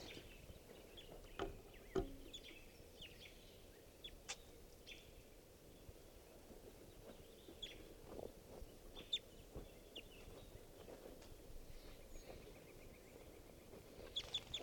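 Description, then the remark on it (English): Calls of a wild orangish male bird fluttering among the trees of a park: brief, sharp chirps scattered irregularly over a steady hiss of outdoor background noise, fairly faint overall, with no one talking. “Those are his calls.”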